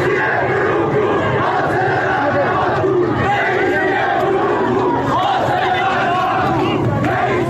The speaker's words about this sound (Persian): در حداقل 5 استان کشور مردم به خیابان ها آمدند. در دسپول، ایزه و اهواز در شبهای گذشته معترضان اینچنین علیه مقام های جمهوری اسلامی شعار دادند.